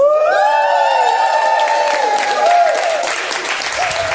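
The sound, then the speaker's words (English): A group of young voices cheers with sustained high-pitched whoops over steady, dense clapping, the excited noise loud throughout the few seconds. “You lot are all excited too, clapping, cheering.”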